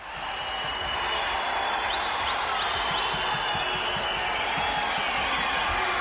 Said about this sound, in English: Yeah, that's the crowd going wild. The crowd goes wild.